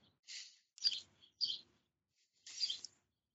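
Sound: pet birds chirping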